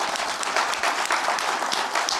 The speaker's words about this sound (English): So I just want to give one big round of applause to my friends at Microsoft.